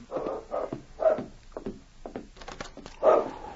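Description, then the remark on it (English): A dog barks and whines in a run of short, uneven bursts right outside the door of a cabin, ending on a louder, drawn-out whimper. No one speaks. “Sounds like that dog is right outside the door.”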